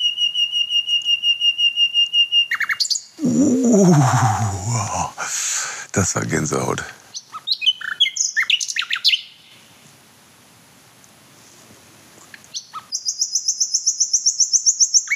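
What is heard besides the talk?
nightingale song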